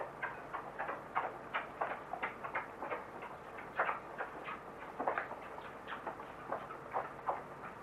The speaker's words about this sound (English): Sounds like a guinea pig.